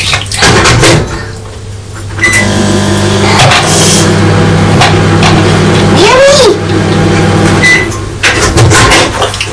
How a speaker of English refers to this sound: What I'm going to do, it is melting a little bit. I'm going to pop that in the microwave for a couple of seconds, just to see if we can melt it good.